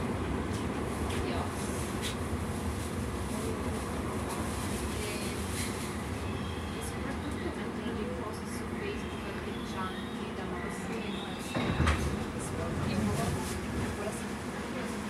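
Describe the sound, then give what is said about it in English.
Steady, dense rumble of a moving train carriage at Heathrow Terminal 5, where the train terminates, with constant rolling noise and rattling, a brief louder clunk near the end, and faint indistinct voices underneath. “This train terminates here.”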